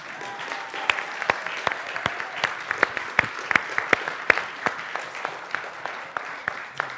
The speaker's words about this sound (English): Now you can clap.